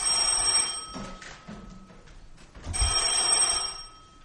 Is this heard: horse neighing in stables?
no